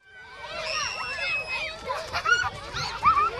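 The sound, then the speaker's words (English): Many children shriek and squeal at once during recess on the playground of Eagle Mountain Elementary School in North Texas, running, swinging and bunching up on the slide; their high voices overlap in a steady, lively din with sharper cries breaking through. “Kids run and squeal on the playground, others swing, while a half dozen of their peers are bunched up on the slide.”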